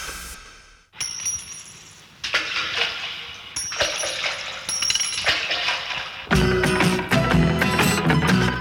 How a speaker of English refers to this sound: Three coins in the sewer, they fell down the drain, through a hole in my pocket.